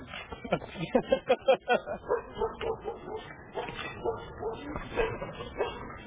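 A dog wearing a muzzle lets out a quick series of muffled, stifled barks, then keeps up a restless whimpering and whining, with faint voices in the background.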